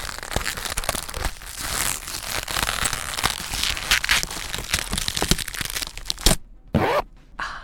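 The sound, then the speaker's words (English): A zipper rasps downward, a long crinkly, scratchy pull lasting several seconds, followed by two quick sharp bursts before it stops. No one speaks. “Well, so, anyway, so let me zip this baby down and get the show started, eh?”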